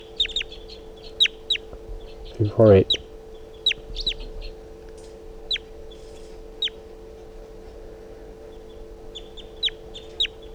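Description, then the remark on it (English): A wild bird flying over a net in a swooping flight chitters in a long, irregular run of short, sharp, high-pitched chirps that come in quick clusters, while a person briefly speaks near the start over a steady low hum. “The wild bird just flew over the net and came close, chittering on a swooping flight.”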